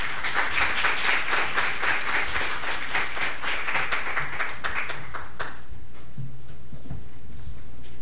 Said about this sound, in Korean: 하나님 나라의 기쁨이라는 제목으로 우리 선교사님 말씀 전하시겠습니다. 다시 한번 박수로 환영하겠습니다.